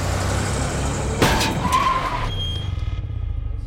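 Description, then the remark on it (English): A car roars along, then a sudden crash and a short squeal of skidding tires, fading into a low idling rumble with a thin ringing tone. Loud, with no talking. “Hans' chauffeur accidentally crashed into Saari on her bicycle”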